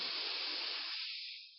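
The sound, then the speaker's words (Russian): A long, steady airy rush of breath drawn in through a constricted throat as a deep inhale during a guided breathing exercise, fairly loud, with no talking, thinning out toward the end. “Итак, глубокий вдох.”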